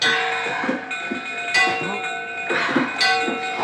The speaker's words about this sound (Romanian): Bate și tu clopotul!